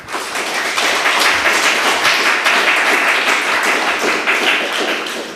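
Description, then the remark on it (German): Sustained applause from an audience, a dense wash of many hands clapping at once, loud and steady throughout with no voices standing out. “Mit dem Applaus klappt schon gut.”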